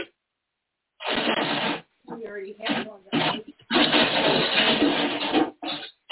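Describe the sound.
A loud, steady whooshing drone of a vacuum cleaner runs in bursts, cutting in and out, with a man's voice speaking between and over the noise.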